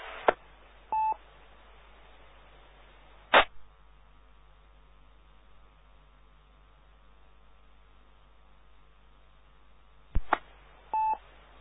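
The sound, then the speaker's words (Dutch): Two brief telephone keypad tones sound near the start and end, each following a sharp click, with another click in between, all over a steady background hiss and no talking, as a telephone check-in point is dialed. “En ik ga even kijken of mijn telefonisch inmeldpunt aanwezig is.”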